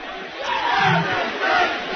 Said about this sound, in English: A warm night. It's cold outside, but with the crowd in here, it is a warm night in Warren H. Cooper Gymnasium.